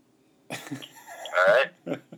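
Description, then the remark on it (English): A person's voice mimics a donkey braying: a few short, rough bursts build into a louder, drawn-out wavering cry, followed by two brief gasping grunts. “How about a fastidious donkey?”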